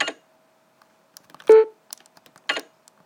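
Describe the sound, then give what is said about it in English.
Short bursts of typing-like clicks open and close the sequence, with a brief low electronic beep in the middle, plus a few faint soft taps between them over a quiet steady hum. These are NVDA screen reader sounds from toggling modes with NVDA+spacebar: the typing sound marks focus mode and the beep marks browse mode. “Now the typing sound was browse focus mode and the beep was browse mode.”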